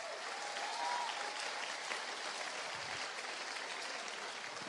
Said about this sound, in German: Applaus für den jungen Mann.